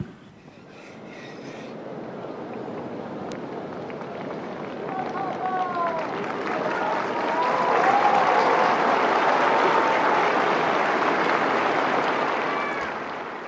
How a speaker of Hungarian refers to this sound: Napon is tapssal köszönik meg a Szent Péter téren jelenlevő zarándokok Ferenc pápa áldását.